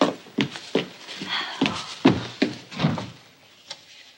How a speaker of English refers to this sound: Let me help. Turn the knob, then open the door.